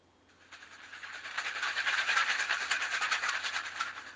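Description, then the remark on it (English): A train carrying a boy to school clatters along the rails with a steady, rhythmic clickety-clack that swells from quiet to a fairly loud rattle and holds there, with no voices. “On the train to school, he often reads adventure stories and books about explorers.”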